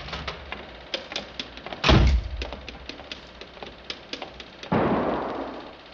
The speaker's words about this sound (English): Hey, that was a gun. Who's there? Hey, miss, did you hear a gunshot?